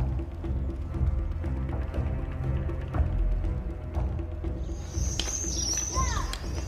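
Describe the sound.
Children play beside a pool in the courtyard of a shrine while women watch over them: a steady, lively murmur of overlapping voices and bustle, with a few sharp, high-pitched squeals and shouts rising above it toward the end.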